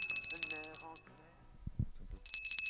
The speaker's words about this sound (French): J'ai même refait l'entrée avec une nouvelle sonnerie.